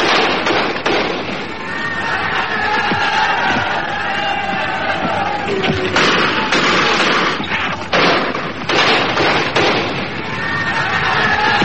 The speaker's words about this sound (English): Meanwhile on Earth, in Ireland, gunfire as the old fight between Catholic and Protestant flared up again.